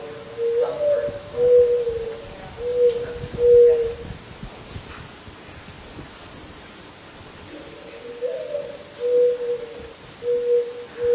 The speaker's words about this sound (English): When you hear that sound, that bird sound, that the creation by God that has that particular sound, we happen to call it the morning dove